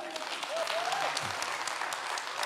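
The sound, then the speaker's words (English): Steady applause from an audience clapping for a woman, dense rapid clapping that holds at a fairly even level throughout, with a few brief voice-like tones rising underneath early on. “Okay, clap it up for her.”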